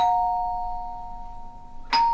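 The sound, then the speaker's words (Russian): A melodic doorbell chime, rung by pressing the doorbell button at a front door, rings with a clear, sustained tone that slowly fades, then a second bright strike sounds near the end, with no talking. “И, наконец, решила не открывать ключом, а нажать на кнопку звонка.”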